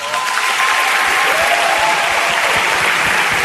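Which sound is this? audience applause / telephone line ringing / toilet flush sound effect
audience applause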